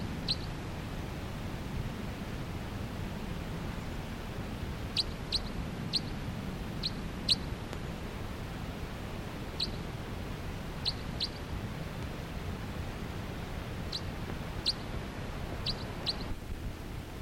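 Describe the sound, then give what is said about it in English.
Short, high bird flight calls sound intermittently, scattered singly and in quick pairs, as a pair of birds flutters about the canopy of a tall ponderosa pine with many cones, at 3 p.m., over a steady low rumble of wind or ambient noise. No one speaks. “And they're occasionally giving flight calls as they flutter about the canopy of that tree.”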